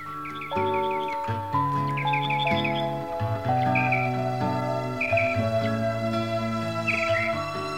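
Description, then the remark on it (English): Birds chirp in short, repeated bursts over a soft, steady musical intro of sustained chords, with no singing or talking. “and all her birds and her little high voice and all that business, this is still a very popular song around”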